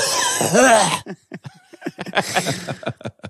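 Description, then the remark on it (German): A loud, exaggerated cough voiced by someone imitating a grandfather's cough, a harsh strained burst lasting about a second, followed by a string of quieter short vocal sounds. “Und dann auch so husten.”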